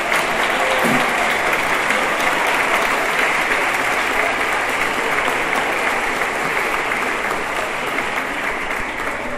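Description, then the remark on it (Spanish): Sustained, dense applause from an audience honouring their flag bearer, third in the world in the 63 kg division, many hands clapping steadily and loudly for the whole stretch with no voices standing out above it. “en verdad felicitar a nuestro abanderado y un fuerte aplauso, porque son 3 años ya.”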